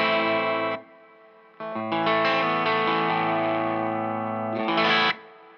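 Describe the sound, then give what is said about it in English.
Electric guitar with slight grit playing sustained, overdriven chords through the reverb channel of a Strymon Flint two-channel pedal, reverb mix set very low, with a brief pause before a longer ringing passage and a final bright swell; loud, no talking. “I will turn that off, and then I will turn on the right side, which is reverb.”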